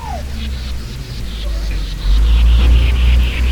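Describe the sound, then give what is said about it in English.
A heavy recycling truck engine rumbles on a street, its low drone growing louder partway through, with steady road noise and faint traffic around it. “There's the recycle truck right there.”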